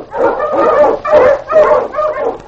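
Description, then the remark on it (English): King, a husky sled dog, barks loudly while pulling on the trail in the Yukon, four strong, slightly yelping barks in quick succession with no one talking. “On, King! On, you husky!”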